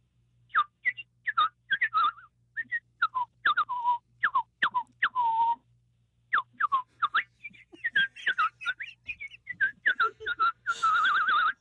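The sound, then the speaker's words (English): A person whistles a quick, chirping tune imitating a bird, in bright, bird-like trills and swoops, fairly loud, with a steady low hum underneath and no talking. “I can whistle like a bird.”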